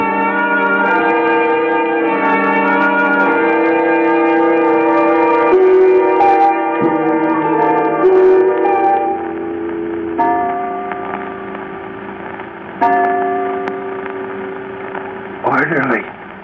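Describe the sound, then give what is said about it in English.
A clock chimes three o'clock with a series of resonant, ringing bell strokes that overlap and slowly fade, followed by steadier ticking beneath a faint hum, fairly loud. “3 o'clock.”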